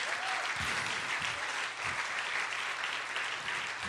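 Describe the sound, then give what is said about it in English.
A large audience applauds in a steady, dense wash of clapping, loud and sustained throughout with no voices standing out, clapping their hands for Jesus. “would you indulge me by putting those hands together and clapping them for Jesus?”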